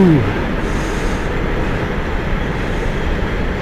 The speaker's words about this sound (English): Sorry, there's a freight train going past. Ah, yes. There goes all the nuclear waste from Germany.